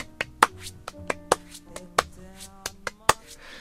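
Crisp ordinary hand claps, used as percussion in a song's mix, snap out about ten times in a loose rhythmic pattern, bright, over a soft sustained musical backing with no voices.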